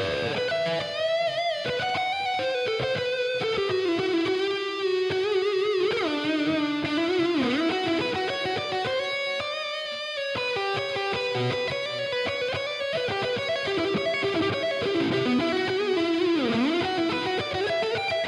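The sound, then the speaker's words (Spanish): An isolated, slightly distorted melodic instrument line from a mix plays soloed for the whole stretch, steady and fairly loud, with subtle delay and reverb effects trailing its sustained notes. No voices. “Y al final sí pusimos un poco, utilizamos estos efectos muy sutiles, si ven aquí en el mix, tanto el delay como el reverb.”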